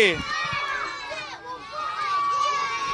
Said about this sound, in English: you can cheer, but you can cheer and make whatever animal noise you are, and you can be as loud as you'd like to be, okay? Okay, we'll wake up from our meditation because Sheep asks the crowd, who's ready to rock? And they go crazy!